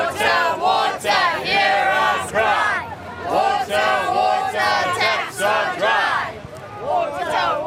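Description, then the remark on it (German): A large crowd of city residents protesting dry taps and a lack of water chants loudly in unison, many voices shouting the same rhythmic phrase, 'Wasser, Wasser', over and over, overlapping in a dense, continuous roar with steady surges on each beat. “Überall in der Stadt haben die Menschen die Nase gestrichen voll, fühlen sich von den Behörden im Stich gelassen und gehen zu Protesten auf die Straße.”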